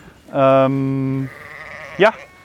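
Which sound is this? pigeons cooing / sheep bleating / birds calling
sheep bleating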